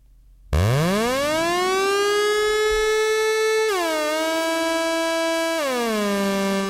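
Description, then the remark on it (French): A loud ARP Odyssey synthesizer (released 1972) tone swoops upward like a siren, holds a steady buzzy pitch, then drops down in two distinct steps, heard alone without any voices. “C'est l'alarme des pompiers, ça.”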